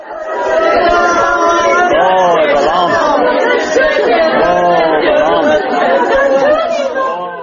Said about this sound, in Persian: ناله و فیغان پیوندان شاهین محیبوف یک مهاجر کاری را از پی تابوت او می شنیدید که روز یکشنبه گذشته در زادگاه شهر پنجکند به خاک سپاریده شد.